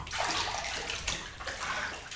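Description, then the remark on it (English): Bathwater sloshes and splashes steadily for a couple of seconds, with a stronger surge partway through as someone settles into a bathtub of water at just the right temperature. No voices. “The water feels just perfect around my body.”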